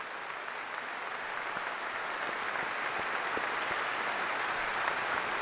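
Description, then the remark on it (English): Steady applause by NRA members at an NRA gathering, a dense, even wash of many hands clapping at a constant loudness, with no voices standing out. “So give yourselves a round of applause for all you do for the ideals we cherish.”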